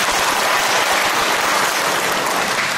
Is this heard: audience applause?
yes